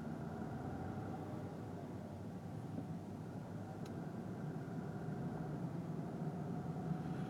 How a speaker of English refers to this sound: Well, now that I've hit the real traffic, I guess I should see what's on the radio.